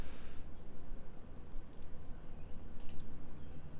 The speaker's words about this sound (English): I am clicking said link.